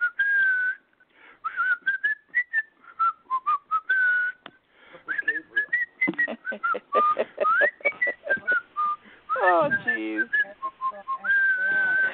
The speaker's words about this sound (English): whistling in the shower